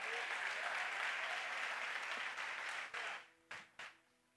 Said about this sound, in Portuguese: Se você crê, aplauda Ele em nome de Jesus.